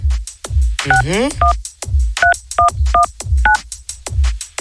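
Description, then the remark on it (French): Several short dual-tone keypad beeps, like digits being dialed on a phone as a call is redialed after hanging up, come in a quick irregular sequence, with a brief warbling sweep early on and steady thumping beats underneath. “Attends, vas-y, on raccroche, on va rappeler parce que.”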